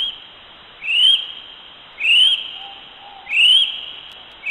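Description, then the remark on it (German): A kiwi, a small flightless bird typical of New Zealand, gives loud, shrill rising whistles, four calls spaced about a second apart in a steady series, with a faint lower note between them and no one speaking. “Der Kiwi ist ein kleiner, flugunfähiger Vogel, der sehr typisch für Neuseeland ist, und so hört er sich an.”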